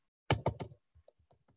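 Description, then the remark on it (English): A quick run of typing on a computer keyboard: three loud key strikes in rapid succession, followed by several softer, scattered taps as the typing trails off. No one speaks. “I've got two different keyboards.”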